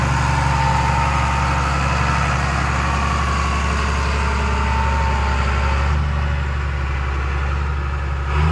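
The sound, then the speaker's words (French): A tractor engine runs steadily, a loud, continuous low rumble with a droning idle and little change in pitch throughout, no voices present. “Depuis tout petit, vous êtes habitué à écouter le son du tracteur de votre père.”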